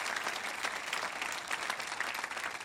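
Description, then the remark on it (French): An audience applauding in praise of God, a dense wash of many hands clapping together at an even level throughout, with no voices standing out above it. “Est-ce qu'on peut applaudir notre Dieu qui relève son peuple?”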